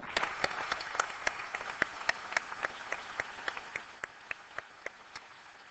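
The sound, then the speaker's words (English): An audience applauds to congratulate the Gold Award achievers and Prince Edward after the Gold Award presentations, a dense patter of overlapping claps that gradually thins out into fewer, sparser individual claps toward the end. No one speaks. “Your Royal Highness and ladies and gentlemen, that concludes the Gold Award presentations, and I'm sure now you'd like to congratulate all the achievers with a resounding applause, and Prince Edward for shaking so many hands.”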